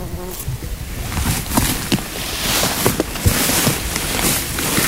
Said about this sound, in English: she's going into the flower, doing that little buzz to release the pollen